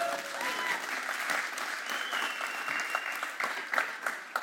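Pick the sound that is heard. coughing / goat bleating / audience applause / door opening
audience applause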